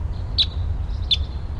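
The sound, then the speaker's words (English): Two sharp, high chirps about three quarters of a second apart, the call notes of a wild red male crossbill, bird 59, standing out over a steady low rumble with no talking. “5'9", the wild crossbill here, it's a red male.”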